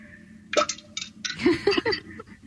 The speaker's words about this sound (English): I'm putting Roy's phone as close to the toilet water as possible so you can hear the clink of the coin, okay?